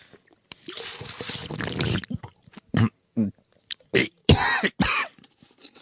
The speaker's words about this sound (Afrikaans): Oh, dit is nogal 'n hoesie wat jy daar het, jongen.